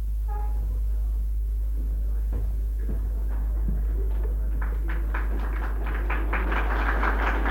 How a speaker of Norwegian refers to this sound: Vel, dersom jeg skjønner applausen rett, så går jeg ut for at det er vittig.